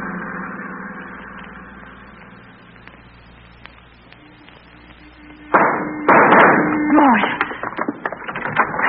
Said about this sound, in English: you stay outside in the car with Pard and keep that motor running